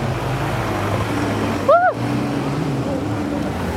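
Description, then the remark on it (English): Steady motor drone and wind rush of a scooter turning and riding through city traffic past Downing Street, with a low engine hum throughout and a brief rising-and-falling tone cutting through near the middle. “We've taken a turn. We're about to zoom past Downing Street on our left.”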